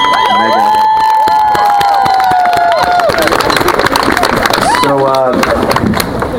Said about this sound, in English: Thanks a lot, folks. Another round of applause for the … duo.